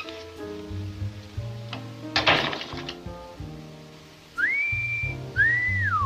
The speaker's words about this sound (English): You know how to whistle, don't you, Steve? You just put your lips together and blow.